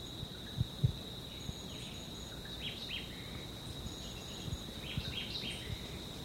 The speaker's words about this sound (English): This is still a white eye.